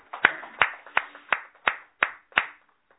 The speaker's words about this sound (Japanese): 盛大な拍手でお祝いします。